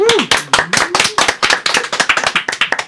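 A small group claps in brisk, uneven bursts of sharp hand claps that keep up steadily for about three seconds, with a brief vocal whoop rising and falling at the start.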